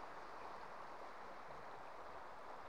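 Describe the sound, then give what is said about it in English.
A steady, continuous rush of river water tumbling over rocks at a riverside on a sunny day, a broad even babble with no pauses, moderately loud, with no voices present. “The light itself is shimmering on the licks of water as it dances over the rocks.”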